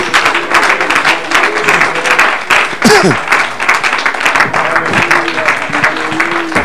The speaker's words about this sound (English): Oh, clap your hands, somebody.